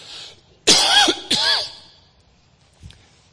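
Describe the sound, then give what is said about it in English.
Two harsh coughs in quick succession, loud and throaty with a raspy edge, from a speaker with a cough during a talk, followed by a faint throat-clearing sound and quiet room tone. “excuse me, I had a little bit of a cough, so pardon me.”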